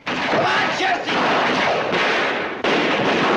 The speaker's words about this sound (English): A gun is fired and Jesse falls to the floor. More shots ring out as an ambush is launched on the James gang.